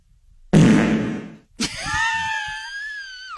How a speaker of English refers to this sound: I even pulled up a fart soundboard to accompany this story, but I'm amazed you haven't used it. Listen, yet. Because you all know what it sounds like. I mean, just to remind us.